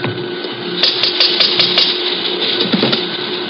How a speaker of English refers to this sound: You want to rap on the pay window? Yeah.